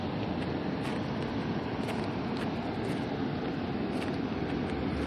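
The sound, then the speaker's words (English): A heavy truck's deep, steady engine rumble fills the scene, a dense low roar with a hiss on top that holds at a constant loudness throughout, with no voices. “Anyway, sounds like a heavy truck trying to drive over me, and I can't see it.”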